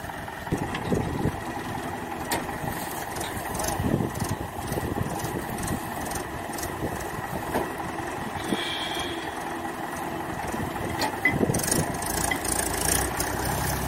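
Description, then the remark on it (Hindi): A tractor's diesel engine idles steadily as the tractor is taken out, a continuous low rumble with a faint mechanical rattle running through the whole stretch, no voices on top. “tractor को अलग निकालते हुए”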